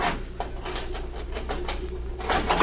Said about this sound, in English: Now, if I can get the jimmy behind the steel door.